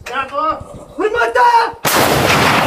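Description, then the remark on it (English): A voice shouts briefly, then a cannon at a Ukrainian artillery position in Donbas fires with a single loud blast that rolls into a sustained roaring rumble through the end. “The thunderous roar of cannons has become increasingly sporadic here at this Ukrainian artillery position in Donbas.”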